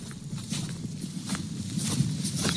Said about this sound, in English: Now you have to listen carefully past the sound of footsteps, but here is the moment.